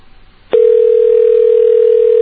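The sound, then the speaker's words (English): A telephone ringback tone on a call to Long Island, New York, sounds through the line: after a brief quiet hiss, one steady, loud electronic ring tone starts abruptly and holds unbroken to the end. “Okay, you get one more ring, then I'm going to Brooklyn, all right?”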